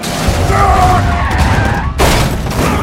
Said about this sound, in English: Ward aims his shotgun out his cracked window and picks off one of the gunmen.